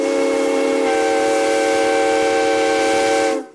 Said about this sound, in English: The pine forest, characteristic of Arizona's high country, surround the tiny town of Williams and its claim to fame, the Grand Canyon Railway. Train fanatics travel great distances to ride behind this steam-powered engine.